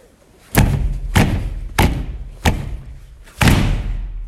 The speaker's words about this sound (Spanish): Vamos a entrar por la puerta trasera, ya que la de adelante está cerrada antes de que nos resfriamos todos. Vamos rápido. Esta puerta está rota, vení a ayudarme a abrirla. ¡Venga! ¡Vamos a empujarle!